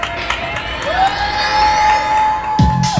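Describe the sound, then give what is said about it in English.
Neighbors in New York City cheer and whoop from their windows at 7 p.m. in a steady, loud din, while a long pitched tone slides upward and holds through the noise. A thump lands near the end. “And many of us look forward to 7 p.m., when neighbors across the city and around the world would begin cheering outside of their windows, thanking the essential workers who kept our society running.”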